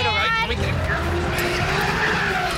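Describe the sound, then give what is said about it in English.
A car skids loudly on a slick road, tires squealing in a sustained, wavering screech over engine rumble, continuous for a couple of seconds. “Whoa, the road's kind of slick.”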